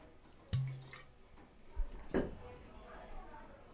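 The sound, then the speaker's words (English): Sweet muscadine grape wine from a Fort Pierce winery splashes briefly into a glass, with a light clink followed by a couple of soft gurgling bursts of liquid. Faint voices murmur in the background. “So I'll pour you a little bit of that.”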